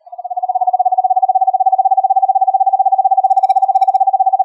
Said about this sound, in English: Here's the sound of a screech owl at normal speed, which is actually doing binaural beats, which are rhythms that entrain your brain.